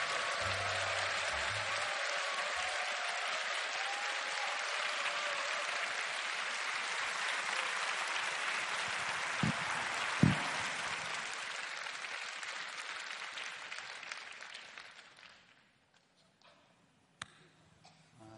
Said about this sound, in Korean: 큰 박수와 격려 또 목사님 환호성으로 맞이하면 좋겠습니다.